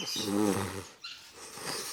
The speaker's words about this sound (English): A puppy.